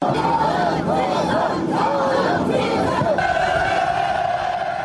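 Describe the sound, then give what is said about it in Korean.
A huge crowd of Pyongyang citizens, waving North Korean and Chinese flags and flowers at Kumsusan Palace of the Sun square to welcome Chinese President Xi Jinping, chants slogans in unison, rising and falling shouts repeating in a steady rhythm, loud and dense, with a sustained roar of many voices underneath. “수많은 평양 시민들이 나와 양국 국기와 꽃을 흔들고 조중호 등의 구호를 외쳤습니다.”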